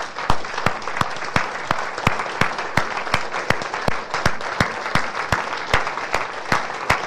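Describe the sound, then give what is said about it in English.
A large standing audience applauds steadily for a group of men being honored, dense overlapping claps at a fairly loud level, with a few sharper individual claps standing out in a loose rhythm throughout. “And the rest of us, why don't we stand and why don't you applaud and just pray our best prayers for these guys.”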